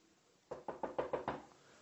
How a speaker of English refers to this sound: For Peter's release, there's a knock on the door. And Rhoda goes and answers it.